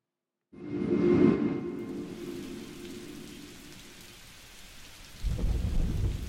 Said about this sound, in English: It's 4 o'clock in the morning. I just want to sleep. I hear the rain hammer at my window.